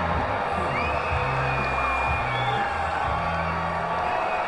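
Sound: baseball stadium crowd cheering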